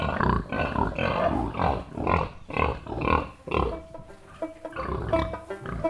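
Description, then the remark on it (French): A pig grunts repeatedly, a series of rough, nasal snorts in an irregular rhythm, with some shuffling and squealing tones toward the end and no one speaking. “Et quand en fait on leur change d'endroit, de leur lieu habituel, c'est un cochon qui va plus bouger.”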